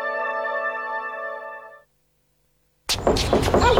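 In a radio advertisement for Pinturas Blanco paint, a sustained, steady tone fades into a brief silence, then a burst of loud, rapid knocking on a door follows, several hard raps in quick succession.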